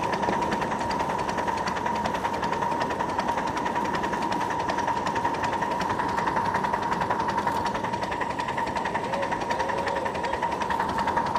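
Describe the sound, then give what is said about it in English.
A steam locomotive running on steam that is not superheated, a little bit wet, getting going through a yard area on a mild day. Its fast, even chuffing and mechanical clatter run continuously under a persistent whistling hum, loud and unbroken with no voices. “Sometimes not superheated steam, you know, she runs a little bit wet.”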